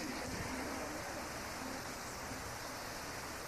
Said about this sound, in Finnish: Jos tuo nyt on sadetta, niin toivotaan, että tänne tulee yhtä runsas hengensadekin.